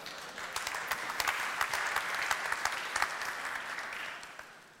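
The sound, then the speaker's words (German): An audience applauds steadily for about five seconds, a dense crackle of many hands clapping with sharp individual claps standing out, fading away at the end. No one speaks. “Applaus.”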